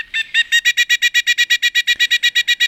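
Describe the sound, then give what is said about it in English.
A pileated woodpecker call rings out loud, a rapid, evenly spaced series of about seventeen piercing notes in steady rhythm, with no talking underneath. “She brought with her pet pileated woodpecker.”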